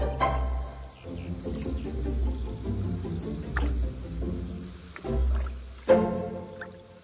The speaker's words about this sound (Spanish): Una multitud de aves nadan en las marismas.